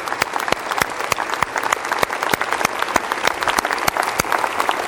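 An audience applauds people coming forward to be baptized, steadily for five seconds, a dense wash of many overlapping claps with sharp individual hand strikes popping out, fairly loud and even throughout with no talking.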